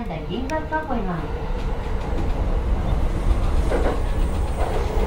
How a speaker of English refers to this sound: Looks like we're pulling into the Conda station here. Yeah, so is this where I transfer to the Ginza line?